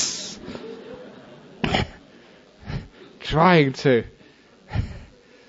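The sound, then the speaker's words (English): A voice imitates a cobra's hiss with several short, breathy bursts spaced a second or so apart, and a brief voiced sound breaks in between them. “When he came to his senses, he saw the snake had been disturbed, had lifted its head, opened its hood, and was trying to hiss, hiss. This is visual effects for the camera.”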